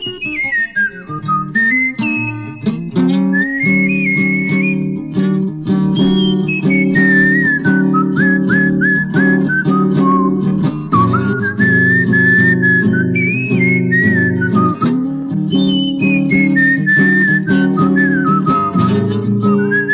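A person whistles a lively, sliding melody, loud, over steady sustained instrumental chords that play throughout, with no talking.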